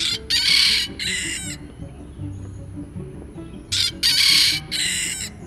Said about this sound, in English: Once I got my parabolic mic, the first step was to try it out on nature sounds, which means local birds. Just around my house, there was this friend. Here's a Kampong rooster at the Botanic Gardens.